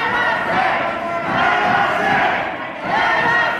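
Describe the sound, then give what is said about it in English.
A large crowd of angry protesters in front of the state house in Lansing, Michigan, some part of a far-right militia and some carrying semi-automatic rifles, yells "Let us in" in loud, surging waves, many voices rising together, dipping briefly, then swelling again in a rough, repeated rhythm. “Angry protesters stood in front of the state house in Lansing and yelled, "Let us in."”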